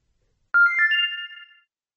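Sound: mobile phone ringtone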